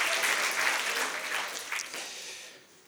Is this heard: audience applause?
yes